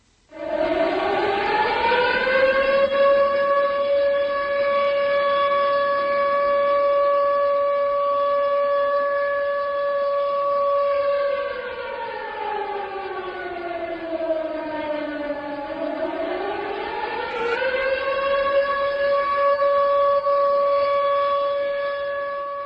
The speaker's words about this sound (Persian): این اوجیر در ساعت 2:28 دقیقه عیناً در لحظه وقوع زلزله 7 روز پیش صدا داد.